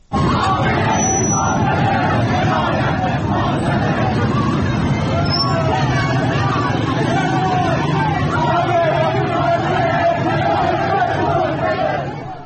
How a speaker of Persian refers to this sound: و یا در دو منطقه دیگر تهران، نازی آباد و نظام آباد تهران، ما تجمعهایی داشتیم که فیلم های زیادی از نظام آباد اومد که به یک از شعارهایی که داده میشد گوش میکنیم.